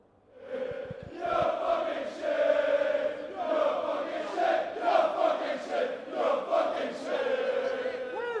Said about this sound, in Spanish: Aún así, como dices, más allá de los cánticos contra la afición local, bengalas y algún que otro petardo como el que acabamos de escuchar, la afición belga avanzaba, mientras avanzaba la afición belga, no ha habido nada que destacar fuera del estadio